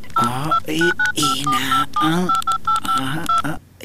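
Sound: telephone number being dialed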